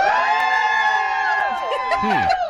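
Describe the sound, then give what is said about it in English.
A group of party guests at a gender reveal cheers and shouts together for a girl, a loud, sustained burst of overlapping voices with high whoops rising above the crowd. “Okay, if you think I'm having a girl, cheer.”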